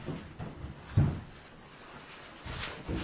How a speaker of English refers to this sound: Is that door still locked? Am I hearing you? Nope, I opened it. It's in the kitchen. The door's not locked.